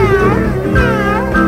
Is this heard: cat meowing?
yes